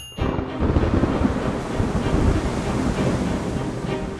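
Heavy rain and gusting wind roar steadily at Waterford Airport on 8 July 1985, a dense wash of noise with a deep rumbling low end and no voices.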